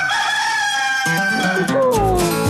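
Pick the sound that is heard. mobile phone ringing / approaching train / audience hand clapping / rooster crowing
rooster crowing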